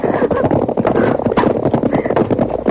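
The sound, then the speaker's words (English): Hooves of several horses pound in a dense, rapid clatter, loud and steady throughout with no voices, like a group of riders galloping together as they approach. “I hear riders.”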